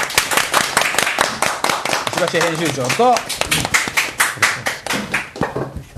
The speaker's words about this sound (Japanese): あ、拍手ありがとうございます。 ありがとうございます。ありがとうございます。ありがとうございます。ありがとうございます。